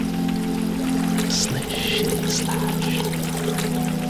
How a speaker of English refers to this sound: Rain. Midnight rain. It's gonna rain. Nothing but the wild rain on this bleak hut and solitude, and me remembering again that I shall die.